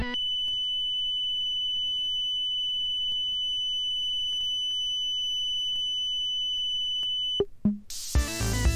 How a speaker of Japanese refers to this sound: 回転ムラが少ないターンテーブルは一定の高さの音が安定して聞こえます。また回転ムラの多い時は不安定な音に聞こえます。